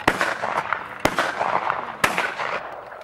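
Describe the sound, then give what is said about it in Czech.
Three sharp, loud rifle shots, fired with the muzzle raised upward into the sky, crack out at steady one-second intervals, each followed by a lingering, rumbling echo against a dense, noisy background. “Přiložil pušku k líci a zvedl její ústí vzhůru k nebi, tak, aby neublížil psům. Pak vystřelil. Jednou, dvakrát, pětkrát.”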